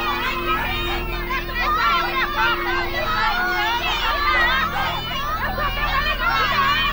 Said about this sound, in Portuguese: Mas então a gente repara o seguinte nesse vídeo, ó, as crianças estão gritando, e dá pra você ouvir gente falando em português, veja, ouça.